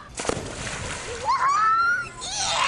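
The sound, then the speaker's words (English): A single sharp splash as someone jumps into a pool, doing a cannonball, dive or belly flop, followed by churning, sloshing water, with a brief high rising vocal tone in the middle. “The unmistakable splash of water when someone does a cannonball, dive, or belly flop into the pool is the sound of summer for me.”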